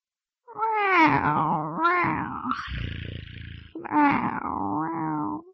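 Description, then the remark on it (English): A cat meows loudly in long, drawn-out wavering calls, broken by a rough, raspy hiss in the middle before two more meows follow. “The cat is at home.”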